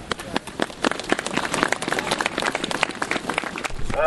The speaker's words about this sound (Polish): I ja myślę, że dla Pana Boga gorące brawa.